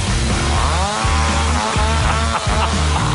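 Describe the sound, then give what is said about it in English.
A chainsaw, used as an instrument in a heavy metal song, snarls loudly and continuously, its pitch swelling and dipping as it revs, over heavy, rhythmic low-end pounding. “How much more heavy can you get than a damn chainsaw?”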